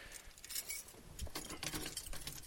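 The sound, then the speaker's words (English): A bunch of four van keys jangles and clinks, a steady metallic rattling that shifts in intensity over a couple of seconds. “This van, by the way, has four different keys, and they all look the same.”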